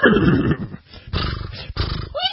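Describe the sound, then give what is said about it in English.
A horse neighing sound effect: loud, rough whinnying in several bursts with a short pause between, ending on a higher, wavering cry. No one speaks over it. “It's not quite dead. I can still hear it neighing.”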